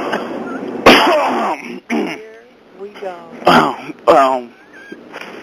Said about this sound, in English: Sorry, I had something really caught in my throat.